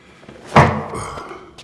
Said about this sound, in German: Also, du schlägst mit dem Hammer gegen den Deckel, ja? So.